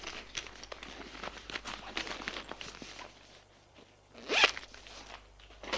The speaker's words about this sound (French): Alors, elle déchire une page de son agenda et écrit, en cachant son écriture en lettres d'imprimerie, le titre du livre.